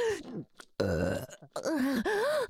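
Close, loud, drawn-out burps, one rough and gurgling in the middle, surrounded by wavering, groan-like vocal sounds with no clear words.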